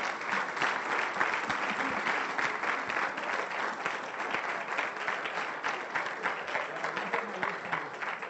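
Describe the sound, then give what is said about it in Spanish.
A church audience applauds the Lord, many hands clapping in a dense, even wash of sound that holds at the same loud level for the whole stretch, with faint voices mixed in. “¿Cuánto le damos un aplauso al Señor por eso?”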